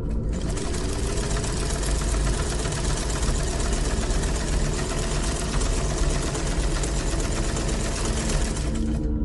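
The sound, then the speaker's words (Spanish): A sewing machine runs steadily and continuously in a bedroom, a dense mechanical whir with rapid needle chatter, fairly loud, with no voices. “Al ruido de la máquina de coser que metió en el cuarto de Nina.”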